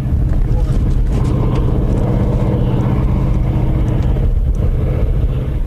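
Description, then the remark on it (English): A steady, low rumbling roar of huge ore-hauling trucks near the bottom of the Empire iron ore mine near Marquette, Michigan, over 1,200 feet deep, heard from an observation plateau; continuous and droning throughout with no breaks, dominated by deep engine tones. “From an observation plateau, huge ore-hauling trucks near the bottom of the mine look small and only create a small roar.”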